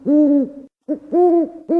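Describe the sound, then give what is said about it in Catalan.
A little owl calls in a series of loud, drawn-out mewing hoots with brief gaps between them, the last one cut off. No one speaks. “El mussol comú és un ocell rapinyaire, menja ratolins, viu als boscos i és molt més petit que el duc.”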